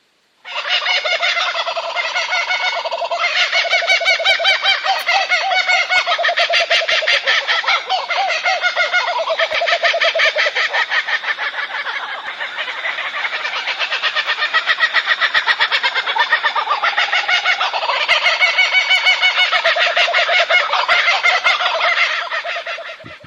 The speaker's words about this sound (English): First of all, let's check out the kookaburra. Kookaburra is a serious sound. There are a lot of kookaburras in Australia. Check this out. Very serious sound.